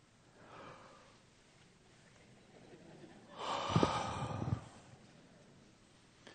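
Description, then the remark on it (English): One person gives a single drawn-out yawn, a breathy, noisy inhale with a slight voiced groan lasting about a second, moderately loud after a faint earlier breath. “Somebody at last service said after I did that, they yawned five times.”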